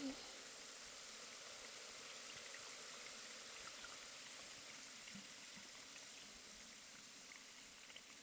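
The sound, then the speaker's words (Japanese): A steady fizzing hiss of carbonated water being slowly poured, including behind the ears, with dense crackling bubbles popping continuously throughout at an even level. “寝起きのシュワシュワじゃ。”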